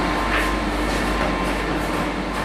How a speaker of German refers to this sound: In der großen Halle sieht man Motoren, Maschinen, Rohre und Leitungen. Und keinen Tropfen Wasser. Ja, man hört es noch nicht mal fließen. Die Hochdruckpumpen übertönen alles.